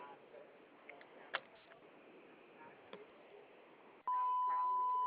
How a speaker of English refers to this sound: Please leave a message when you hear the beep. Thank you.